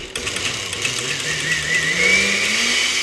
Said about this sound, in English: Once the cauliflower chunks are nice and soft, Carla ladles everything into a blender and pulses it to a silky smooth texture.